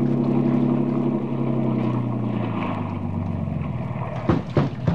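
vehicle, motorboat engine running

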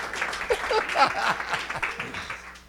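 crowd, round of audience applause

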